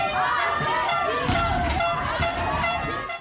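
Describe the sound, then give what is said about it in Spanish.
Dozens of women shouting together in protest, crying "¡Asesino!" at the Comandancia General de Policía (police headquarters) in Quito, seeking answers after the remains of a missing lawyer were found. Their high, strained voices overlap into a loud, continuous roar that swells in bursts for about three seconds. “Es el grito de decenas de mujeres que llegaron hasta la Comandancia General de Policía en Quito, en búsqueda de respuestas tras la localización de los restos de la abogada María Belén Bernal, desaparecida el pasado 11 de septiembre”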